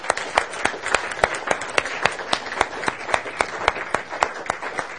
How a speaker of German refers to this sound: So, lass uns kurz zusammenstehen. Und den, die vor, nach vorne kommen, einen Applaus geben. Wollen wir das machen?